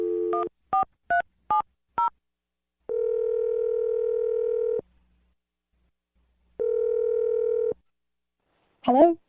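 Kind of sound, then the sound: signal or alarm, telephone dialing and ringing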